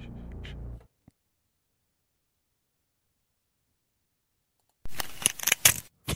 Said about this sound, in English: four paper clips lined up with a magnet at the end and they click together. They click, the magnet grabs onto the paper clips. And as they come up to the magnet.